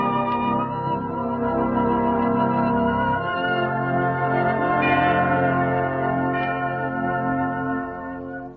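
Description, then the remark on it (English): Chimes ring out over a sustained bed of organ, played by Walter Bloffus, and strings, accompanying memory time on the Refreshment Club, steady and fairly loud throughout, with a few bright struck notes rising above the held chords before a slight fade at the end. “Right now, a change of Refreshment Club mood and a change of Refreshment Club tempo as Walter Bloffus, who's been at the organ along with the strings and chimes accompanying memory time”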